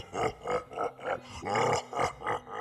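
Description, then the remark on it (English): A giant's deep, booming roar of laughter rolls out in a steady series of about seven loud, throaty bursts, with nothing else around it. “And then, distracted by his own newly invented rhyme, he roared with laughter.”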